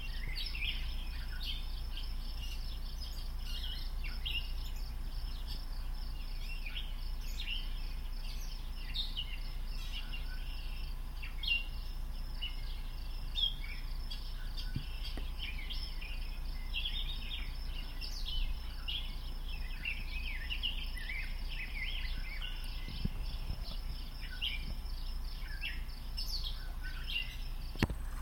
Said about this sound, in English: Now, I'm just going to pause momentarily and let you hear some of this amazing bird song, and then I will put on another recording that he did, which I very much enjoy.